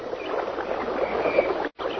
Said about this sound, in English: They arrive at a narrow gorge in the river, where treacherous, fast-moving currents, rocks, and waterfalls impede their progress.